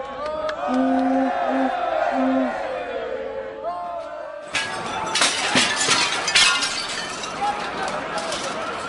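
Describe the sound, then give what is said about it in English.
A noisy crowd of celebrating fans shouts over sustained horn-like tones on a street at midnight after a game, then bottles hurled at police and windows begin smashing in loud, repeated shattering crashes amid the rowdy throng. “Then, at midnight, some hurled bottles at police, smashed windows, and looted a few stores.”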